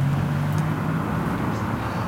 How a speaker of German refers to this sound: Ja, das Auto ist immer noch da. Jetzt entfernt sich das Auto.